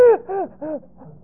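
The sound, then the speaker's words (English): A voice imitates gasping for breath: three quick, strained, breathy gasps in a row, fading away. Each one is fairly loud, with no talking around them. “The word picture is such that you gasp for breath, but you get what you already have, and you just inflate.”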